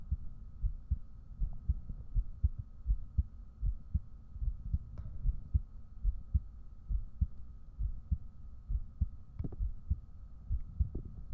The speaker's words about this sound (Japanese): ホラー映画見たら心音よく聞こえそう。